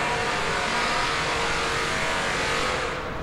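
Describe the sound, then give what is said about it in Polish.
A loud, steady roar of heavy machinery, like an engine running hard with a droning hum, echoing continuously inside a railway tunnel at the new Łódź Fabryczna station in Łódź, where construction work is ongoing. “Tutaj cały czas trwają prace, jak słychać.”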